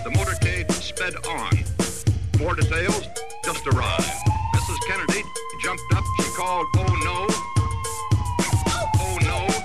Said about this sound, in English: Here is the ambulance.